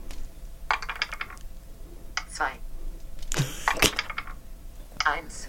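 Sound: dice rolling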